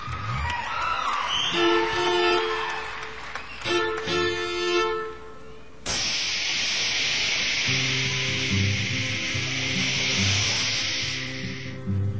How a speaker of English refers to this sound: That's the air brakes.